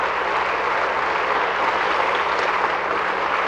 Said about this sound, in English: Let's just give the Lord a hand clap tonight. Say, praise the Lord.